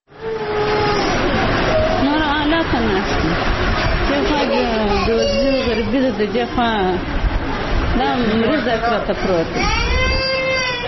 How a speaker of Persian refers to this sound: این مادر در شفاخانه میرویس کندهار در کنار بستر کودک مریض خود نشسته، از فقر و بیچارگی گریه می کند.